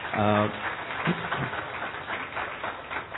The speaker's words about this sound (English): a big round of applause for her.